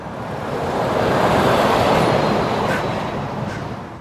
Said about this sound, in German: Es ist später Nachmittag an einem regnerischen Tag in Pratteln. Wie eine große Stahlkarawane fährt ein blau-weißer Lastwagen nach dem anderen vom Logistikzentrum der Paul-Leimgruber AG zur Autobahn hoch oder in umgekehrter Richtung zum Lagerhaus.